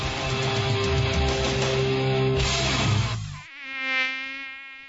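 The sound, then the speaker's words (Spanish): A loud, dense burst of music gives way to a mosquito's thin, high-pitched whine that wavers in pitch and swells before fading slightly, heard alone without any voices. “El mosquito que transmite el dengue vive en el agua clara que parece limpia y se junta en las gomas, los tachos, los aljibes, cacharros, chapas acanaladas que juntan agua, tanques de agua sin tapa y floreros.”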